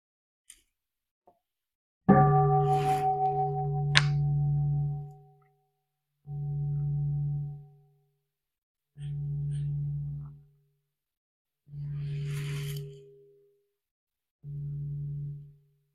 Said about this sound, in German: aber erst einmal würde ich noch mal gerne eine Glocke hören.